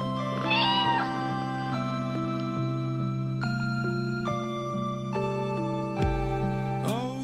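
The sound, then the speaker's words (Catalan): A cat meows softly near the start and again briefly at the end, heard over sustained, slowly shifting musical tones with no talking; the meow is of Félicette, the French cat launched into space on 18 October 1963. “A veure, explica'ns de qui és aquest miol tan adorable.”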